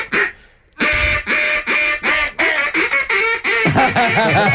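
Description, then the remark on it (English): A duck call is blown in a rapid series of loud, nasal quacks, about eight bursts in quick succession after a brief pause, closely imitating a duck. “Note to self, I'm never going duck hunting with you. I look like an idiot on the call.”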